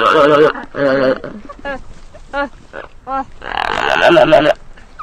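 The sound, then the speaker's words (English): Gelada monkey vocalizations: a run of throaty grunts and wavering, nasal harmonic calls in uneven bursts, ending in a longer, louder warbling call. “Or as you would say in gelada.”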